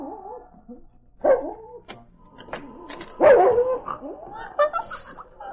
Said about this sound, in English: was awakened by a dog whining at the door. Golly! Sounds like a dog right outside the door.